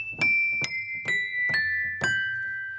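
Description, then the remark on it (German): Five clear, bell-like glass tones are struck in a slow, even sequence about half a second apart, with no talking. Each rings on fairly quietly at a pure sustained pitch that drifts slightly lower. Old piano hammers, linked by ropes to the keys, strike wine glasses set inside an open piano case. “Schon klopfen die Hämmerchen an das Glas.”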